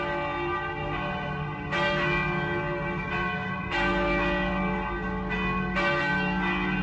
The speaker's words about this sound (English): Bell's making so damn much noise he can't hear what we're saying.